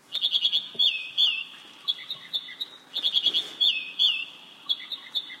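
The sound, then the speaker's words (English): An American Dipper, a small gray bird also known as ouzel, sings a loud, high, bubbling song of rapid repeated notes and trills, delivered in two similar phrases with brief pauses, over a faint steady rushing background. “Our guest today is Hugh Kingery, an old friend, and our conversation is focused on a small gray bird, the American Dipper, also known as ouzel.”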